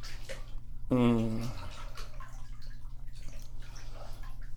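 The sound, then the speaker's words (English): Water in a young girl's bubble bath sloshes and splashes steadily, with a short, bright vocal squeal near the start and soft voices in the background. “It's getting close to bedtime, so we just have to have a bath.”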